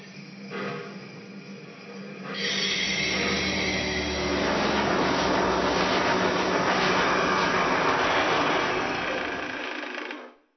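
A steam locomotive starts pulling away: a quieter mechanical hum gives way to a loud, sustained roar of hissing steam and rumbling machinery that holds steady before cutting off abruptly.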